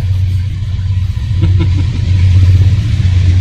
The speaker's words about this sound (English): Fuck, the train's going by. That's fine. Pause.